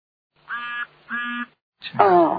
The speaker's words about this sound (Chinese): 你们家养鸭子的？